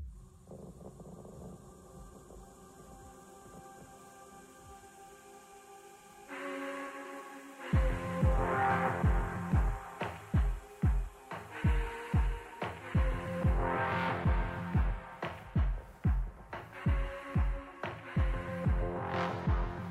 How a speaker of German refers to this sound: Das hat einen Herzschlagbeat, das fand ich interessant und der war gleich schnell wie meiner zu dem Zeitpunkt. Das war merkwürdig. Also es hat ja so ein Bum, Bum, Bum.